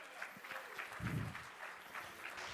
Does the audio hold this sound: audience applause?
yes